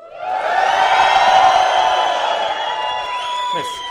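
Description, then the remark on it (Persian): A group of voices scream and cheer hooray together in one sustained, loud burst lasting a few seconds before a lesson, with high excited shrieks rising above the crowd before it tapers slightly at the end. “یه جیغ هورا بریم.”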